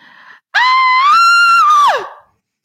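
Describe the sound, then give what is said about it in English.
A voice imitates a woman's scream: one loud, sustained, high-pitched shriek lasting about a second and a half, rising slightly and then sliding down at the end, after a brief faint sound. “And at about 4 a.m, I hear this woman screaming like bloody murder. Okay. Like it sounded like this.”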